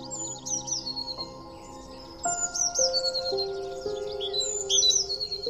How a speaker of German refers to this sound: Eine kleine Blaumeise sitzt über dir auf einem Ast, zwitschert immer mal wieder und schaut dich neugierig an.